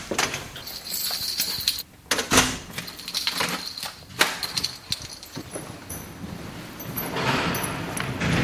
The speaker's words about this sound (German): Die Tür kann freigegeben werden, aber jeder Mitarbeiter ist hier eingelesen. Ich kann hier die Iris einschalten. Man muss genau drin schauen, dass die Augen lesen kann. Und dann wird die Tür freigegeben.